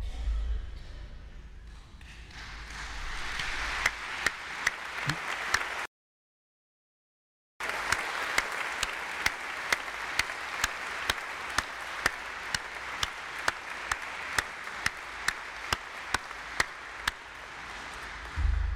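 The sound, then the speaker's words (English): Sustained audience applause as members of the classes of 1966, 61 and 56 rise, a dense wash of many hands clapping that swells in and holds steady, with a few sharper individual claps standing out and a brief silent gap partway through. “And at this time, I would like to ask the members of the classes of 1966, 61, and 56, can you believe there are three of them with us, to rise and receive our applause.”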